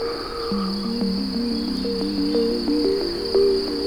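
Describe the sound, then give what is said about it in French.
Crickets chirp incessantly in a steady, high-pitched drone in a flowery spot surrounded by trees, joined by lower trilling insect calls that shift and pulse throughout. The chorus is fairly loud and continuous, with no voices. “Les grillons, eux, chantonnent de manière incessante.”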